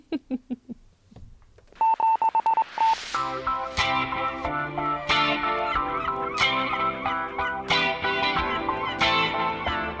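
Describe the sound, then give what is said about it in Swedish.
A quick burst of telephone dialing tones, several short electronic beeps in rapid succession, as a call is placed to Turkey's national parking company; it comes after a brief voice and gives way to loud, busy music. “Då ringer jag till Turkiets nationella parkeringsbolag.”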